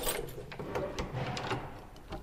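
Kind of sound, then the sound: household object, door being opened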